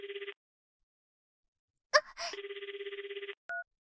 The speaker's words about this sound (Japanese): あ、電話、ちょっと待ってて。